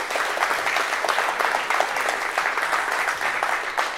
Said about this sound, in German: Applaus, ja, Applaus für die beiden.